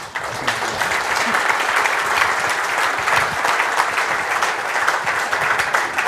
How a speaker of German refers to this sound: Erstmal natürlich ein Applaus.